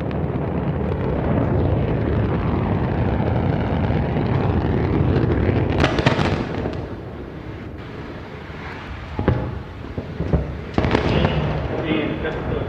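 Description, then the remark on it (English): The engines of an Antares rocket roar at liftoff on the Orbital-3 mission carrying a Cygnus cargo spacecraft to the ISS, main engines at 108%: a loud, continuous, rumbling blast that fills the whole clip, with sharper crackling bursts flaring up about halfway through and again near the end. “And we have liftoff of Antares. The orbital three mission that brings Cygnus on its third CRS mission to the ISS.”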